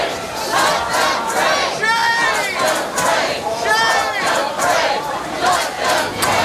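protest crowd chanting

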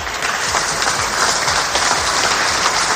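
applause

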